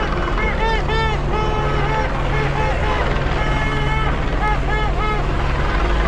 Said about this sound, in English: CHP, that's what that helicopter is. This whole time I thought that was the news. That's a CHP chopper.